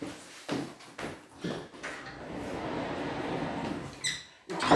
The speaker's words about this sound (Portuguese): Vou pechar a porta porque creo que está aquí.